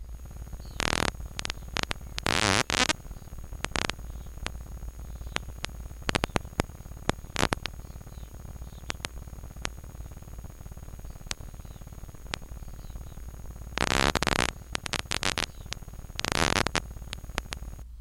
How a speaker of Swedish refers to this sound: Vi ska lyssna på hur det låter när man har spelat in klickljud och sen gjort så att vi kan höra dem. Och så här låter det då när tumlare jagar.